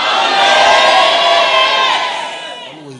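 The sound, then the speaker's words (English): A large crowd at a prayer gathering screams and cheers together in a loud, sustained roar that holds steady for a few seconds before gradually fading, with a single voice emerging as it dies down. “Then can you scream always?”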